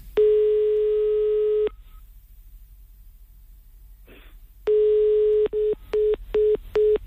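A steady telephone ringing tone sounds for over a second, pauses, then returns and breaks into a run of quick, evenly spaced beeps as the call is hung up, clear with no voices.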